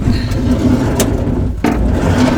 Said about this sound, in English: I'm just gonna shut this door for a second.